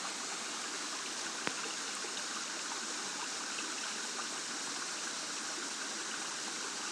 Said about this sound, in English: sitting at a waterfall in Lejuma in the Soutpansberg. Different sounds of water falling all around us. Waterfall on the left. A little brook behind us.